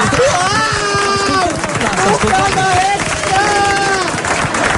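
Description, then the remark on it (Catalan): Loud, steady applause from a large crowd after the Castellers de Vilafranca complete a gamma extra castell. Dense clapping continues throughout, with voices cheering and shouting over it for the whole few seconds. “aplaudiment, que era un seso.”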